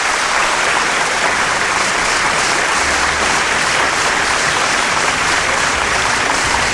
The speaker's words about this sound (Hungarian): Igen, pontosan, és a taps vihar.